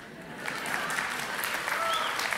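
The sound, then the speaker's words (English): A crowd applauds steadily, a dense, even wash of many hands clapping at moderate volume, sustained throughout without pause. “Isn't that wonderful? Let's all clap.”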